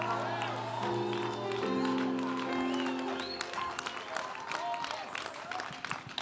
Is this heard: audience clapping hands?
yes